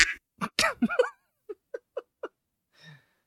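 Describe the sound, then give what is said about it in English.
A burst of loud, nasal duck quacks from a soundboard button sound effect, followed by four short, evenly spaced quacks and a faint final squawk, with no talking. “Nobody will ever spam the duck or sad horn button or anything like that.”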